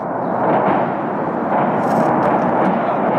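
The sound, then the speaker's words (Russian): A dense, continuous roar of explosions as a large weapons depot near Kharkiv, Ukraine, burns and detonates at night, shells and rockets bursting in a rumbling barrage with occasional sharper cracks, loud and unbroken throughout. “Хаотичный разлет снарядов и ракет.”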